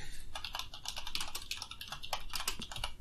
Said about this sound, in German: Jetzt hört man leider die Tastatur, aber nein.